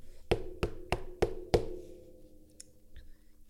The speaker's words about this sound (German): Aber was war das? Plötzlich klopfte etwas an die Tür von der Kneipe oder wo sie da auch immer gesessen sind.